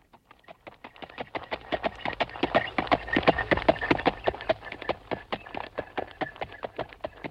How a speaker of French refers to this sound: dis au cocher qu'il est inutile de presser les chevaux. Nous avons bien le temps.